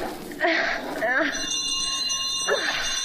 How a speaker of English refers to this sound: Oh, for crying out loud, that'll waken the dead for sure. Oh, the bell's one of those old Victorian contraptions with miles of wire running through the walls of the house, you know.